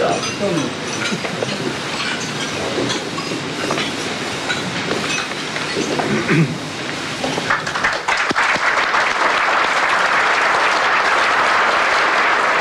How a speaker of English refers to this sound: Well, applause there for the Queen's speech, a speech which lasted just over 10 minutes